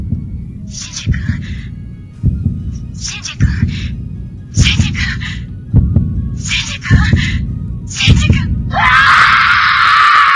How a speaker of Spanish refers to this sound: Y el japonés lo vive así, escuchad. El grito es terrible.